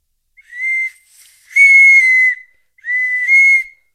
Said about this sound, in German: Was ist denn mit der Türklingel passiert?